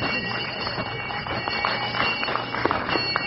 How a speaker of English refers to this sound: Well, there's the bell, kids, tolling the end of our examination tonight.